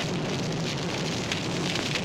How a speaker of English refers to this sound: And as you get very, very close, it's uncomfortable. You hear the crackling. You feel the intense heat on your face.